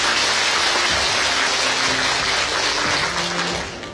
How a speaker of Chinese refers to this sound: 下面让我们以热烈的掌声欢迎妙华法师。